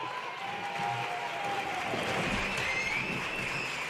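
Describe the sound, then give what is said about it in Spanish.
A theater audience claps for a comparsa (carnival singing group) that performs closing the show, in a dense, steady applause that holds at an even loudness for the whole stretch, with a few faint whistles rising above the clatter and no voices. “El aplauso de este público para hacer notar a esa comparsa que de seguro está preocupada por el aforo del teatro, y el día, claro.”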